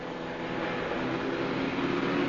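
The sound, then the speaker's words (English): A car engine drones steadily as the vehicle drives along, a constant rumble with road noise, holding the same level throughout with no voices. “Stop the car!”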